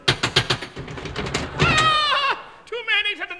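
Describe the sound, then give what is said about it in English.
A quick run of sharp knocks on a cottage door, about ten rapid raps in a row, followed by a voice with a drawn-out, bleating tone. “I'll knock.”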